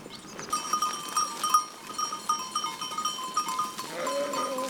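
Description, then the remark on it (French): A goat barn on a farm near Cruet in the Combe de Savoie, France, full of goats bleating, many overlapping calls forming a steady chorus, with a deeper bleat breaking in near the end. Nobody talks. “Bon, c'est une chèvrerie, hein. Ouais, chèvrerie. C'est-à-dire donc, c'est un bâtiment avec des chèvres.”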